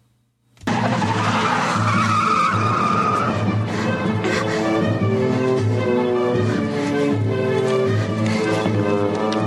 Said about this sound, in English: The other gunman chases them with the car.